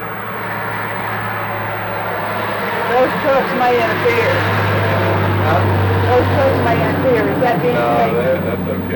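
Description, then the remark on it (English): Trucks rumble past outdoors, a steady low engine drone with broad road noise that swells slightly midway, while indistinct voices murmur underneath. “Those trucks may interfere.”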